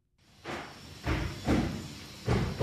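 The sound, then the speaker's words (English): A construction crew bangs on walls at the Lifelong Clinic in West Berkeley at 7:30 in the morning: four or five loud, booming thuds at uneven intervals, each ringing out briefly, with no voices. “A construction crew is banging on some walls”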